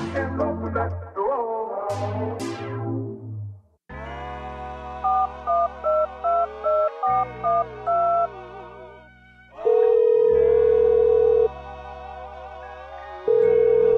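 Electronic phone-like ringing: a run of quick, evenly pulsed beeps, then a long steady tone like a dial tone, heard clearly over a loud synth music beat with no talking.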